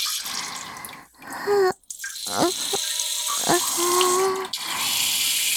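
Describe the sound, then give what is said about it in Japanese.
A steady, hissing stream of urine splashes continuously, with a few hollow, ringing drips that rise slightly in pitch. It is moderately loud, with one brief break near the middle and no voices. “おしっこ、止まんない。”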